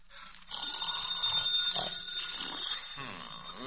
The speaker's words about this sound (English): Answer the phone